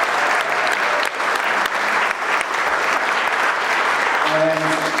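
Sustained applause from an audience, a dense steady patter of clapping that holds at an even loudness for several seconds, with a brief tonal hum entering near the end.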